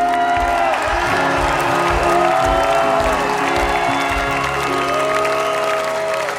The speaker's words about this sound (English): And maybe he can show you appreciation with just a round of applause.